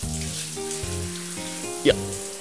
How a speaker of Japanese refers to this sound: はい、それじゃあここに正座して。 はい。 シャワーかけるわよ。 はい。